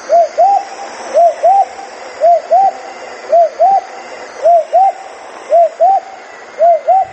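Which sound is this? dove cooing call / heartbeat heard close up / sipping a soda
dove cooing call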